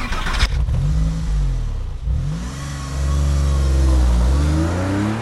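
An old family estate car's engine starts with a brief burst, then revs and accelerates as the car pulls away, the engine note rising and falling through gear changes, fairly loud with no talking.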